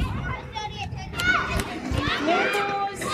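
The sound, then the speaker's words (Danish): Lively schoolyard noise at a school near Roskilde, Denmark, on a slightly windy day: many children shouting, calling and chattering at once, high excited voices rising and falling over a steady hubbub. “Så er jeg ankommet til Margretheskolen. Det blæser lidt, og jeg kan se, at der er gang i den.”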